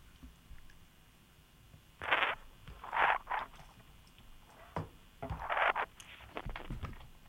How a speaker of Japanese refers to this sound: じゃあ私はカレーを食べようと思います。